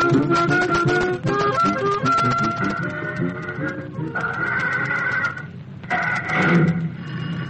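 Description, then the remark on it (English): An old telephone bell rings at a garage in Gasoline Alley in bright, sustained bursts, the rings separated by short gaps, sounding over a busy, clattering background. No one speaks. “Hold it till I get this phone.”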